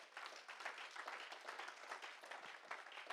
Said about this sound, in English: And you can clap to that because that's true.